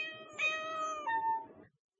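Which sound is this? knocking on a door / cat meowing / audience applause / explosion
cat meowing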